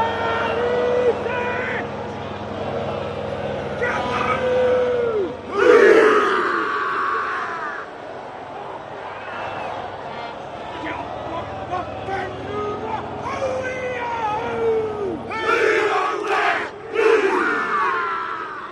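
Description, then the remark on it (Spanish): New Zealand rugby players, arranged in a triangular formation, chant a haka war cry in unison, loud rhythmic shouts with sharp collective yells bursting out repeatedly over a roaring stadium crowd. “los jugadores de Nueva Zelanda que se van a distribuir de forma triangular para hacer la jaca”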